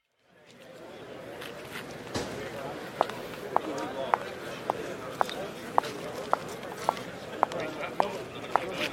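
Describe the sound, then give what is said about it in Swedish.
Steady footsteps of a woman walking along a hard office corridor floor that leads out to the streets of São Paulo on a Friday evening, about a dozen crisp, evenly paced steps at moderate volume over a constant low background rumble. “Ah, äntligen fredag, tänkte hon när hon gick genom korridoren som ledde ut mot Sao Paulos sprudlande gator.”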